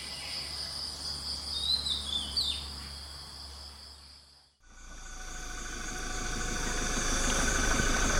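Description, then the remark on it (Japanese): A dense chorus of chirping insects in the morning at the Lanmai library near Prao, Thailand, drones steadily, high and continuous, with a faint bird call briefly over it; after a short break the insect buzzing returns, fuller and slightly louder. “朝の図書館は虫の音と鳥の声が同時に聞こえる最高の時間なんです。”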